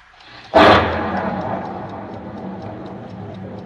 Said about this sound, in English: I never heard a clock that made so much noise, just ticking.